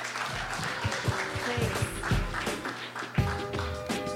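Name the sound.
audience applause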